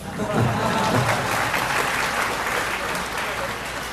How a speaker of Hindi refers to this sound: तो आप सब ताली बजा के मुझे रोकना चाहते हो।